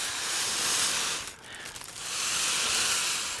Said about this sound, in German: Da sind unten, habe ich schon so, weil das so Folienballons sind, habe ich die Beinchen so Röhrchen reingesteckt. Ach hier, gesteckt. Ja. Soll ich den jetzt aufpusten, oder wie? Ja, genau. Jetzt könnten wir mal die Ballons aufpusten.